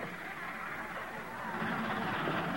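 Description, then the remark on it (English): A steady, broad mechanical rumble of a train locomotive speeding into a station, growing slightly louder in its second half, heard on its own with no talking. “Hearing a train approaching, Bill hurries out to a platform.”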